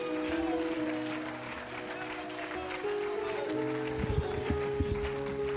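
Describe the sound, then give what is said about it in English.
An audience at an evening worship service gives God a hand clap of praise, clapping steadily in a dense, sustained wave of applause, with held organ or keyboard chords sounding underneath and a few low thumps near the end. “Come on, if he's worthy to be praised, go ahead and give him a hand clap right now.”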